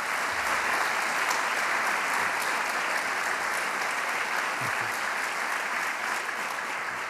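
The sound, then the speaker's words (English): A crowd at a university event in Kalamazoo applauds steadily for several seconds for the great work done, a dense, even wash of clapping that holds at a constant level throughout with no voices standing out. “How about a nice round of applause for the great work that's gone?”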